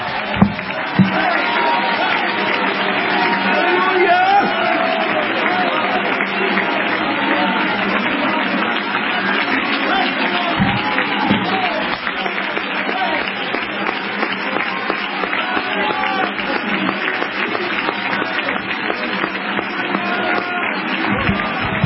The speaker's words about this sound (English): Would you clap and shout for the Lord who is mighty in His temple this morning?